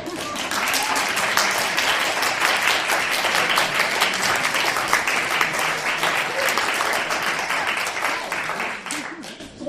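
Sustained applause from an audience, a dense, even wash of many hands clapping at steady loudness for nearly ten seconds before tapering slightly at the end.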